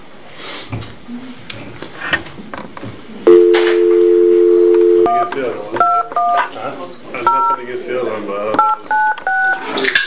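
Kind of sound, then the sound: signal or alarm, telephone keypad dialing tones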